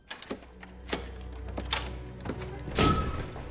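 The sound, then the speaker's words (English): A series of quiet mechanical clicks and clunks as one of the front doors of a house is unlocked, a bolt sliding back, ending in a brief metallic rattle, with no talking. “She approaches one of the doors and unlocks it.”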